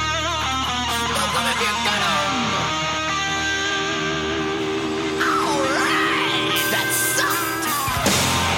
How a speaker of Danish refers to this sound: Så skal vi lige høre det sidste klip, som bare sådan, prøv at høre, det er igen, det er bare et mega fedt primal råb,